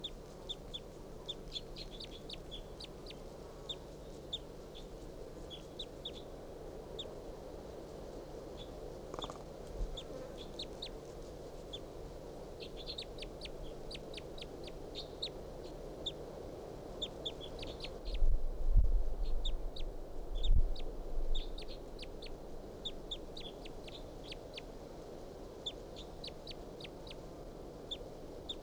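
wild bird soft calls

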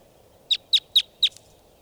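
wild bird calling

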